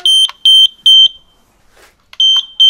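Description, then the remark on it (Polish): A loud, high-pitched carbon monoxide detector alarm beeps in short bursts, three quick beeps, a pause, then more beeps, piercing, with no one speaking. “A gdzie jest ten czujnik? Pokażę go pani?”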